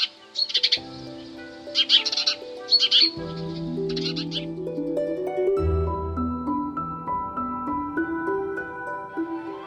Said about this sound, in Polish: Różnice są i w głosie, ale trudne do wychwycenia. Warto się więc mazurkowi przyglądać i przyzwyczajać się powoli do faktu, że częściej możemy spotkać wróbla mazurka, a nie szarego wróbla domowego.